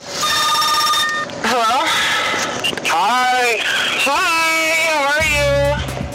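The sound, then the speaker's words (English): A telephone rings once with a steady electronic tone lasting about a second, followed by sliding, voice-like sounds and what seems to be talking on the line, at the start of a phone call recorded by detectives, in which a woman calls her husband. “Detectives recorded this phone call”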